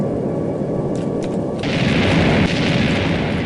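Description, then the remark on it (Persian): A loud explosion in a residential neighborhood erupts into a heavy, sustained rumbling roar, dense low-end boom with crackling debris-like texture rolling on for several seconds without letting up. “انفجاری مهیب ناگهان سکوت محله را در هم شکست.”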